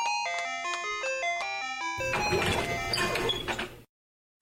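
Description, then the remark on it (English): A melodic doorbell chime plays for about two seconds, then a front door is opened to a loud rush of noise from outside before it cuts to silence. “I knew I shouldn't have gotten the door.”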